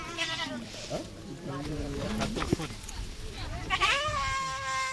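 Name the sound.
goats bleating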